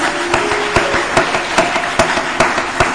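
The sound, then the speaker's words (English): A church audience clapping their hands together in a steady, unified beat as a clap of faith to the Lord, sharp claps landing roughly every half second over a dense bed of scattered applause, with no voices. “Let us give a clap of faith to the Lord.”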